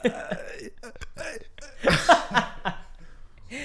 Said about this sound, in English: That was a lot of burping. The end of a burping fit.